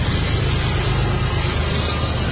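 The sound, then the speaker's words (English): A freight train rumbles past in a steady, heavy drone, deep low-end roar with a grinding hiss on top, holding an even loudness throughout with no voices. “Sounds like a train going by. Freight train.”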